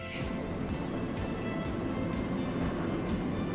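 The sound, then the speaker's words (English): A long train rumbles steadily past through downtown, its low, continuous roar punctuated by rhythmic clanks and rattles from the cars, constant throughout. “That's a long train. They're really long.”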